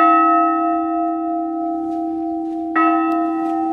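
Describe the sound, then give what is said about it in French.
An 18th-century church bell, the 'demoiselle' bell, rings with a sustained, shimmering hum, its tone lingering, then a second strike near the end brightens the sound before it continues to resonate, fairly loud with no voices. “Il faut les présenter, la cloche de demoiselle. Accompagnée du tocsin, la cloche est... Celle-ci est 18e.”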